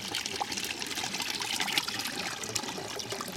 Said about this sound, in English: So they allow the finer sedimentation to fall to the bottom. The pump actually recycles the water around. So that's actually what's happening. And that's why we've got this cascading system.